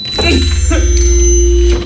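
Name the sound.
door being closed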